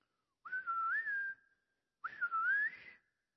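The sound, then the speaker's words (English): Two sharp two-finger whistles, each about a second long, swooping up in pitch and then holding steady, separated by a short pause, clear with no talking, made by someone imitating a mother's whistle for calling children home for dinner. “She used to put her fingers in her mouth right there, and she would go, and just had this whistle.”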